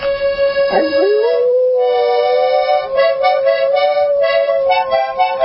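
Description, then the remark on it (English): A happy dog with its tail wagging howls in one long, loud, unbroken wail that dips sharply at the start, then holds a steady, slightly wavering pitch for several seconds. No talking is heard. “When Charlotte didn't have problems hearing things, she'd sit in here and we'd do dog stuff and her head would turn 87 different ways”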